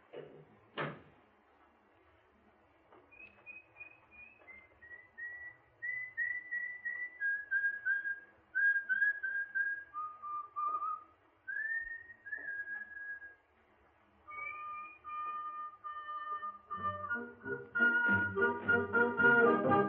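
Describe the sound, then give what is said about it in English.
A person whistles a wandering, melodic tune of sustained notes and short slides, clear, after a single thud at the start, as a signal on getting into the street safely. A rattling clatter rises beneath the final notes. “And when you get into the street safely, don't forget to whistle.”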